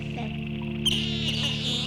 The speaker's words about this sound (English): Well, there's the pond. Ooh. Just a little bit of the pond for you.